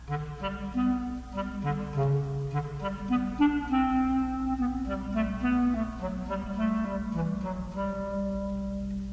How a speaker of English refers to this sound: A clarinet plays the part of the cat.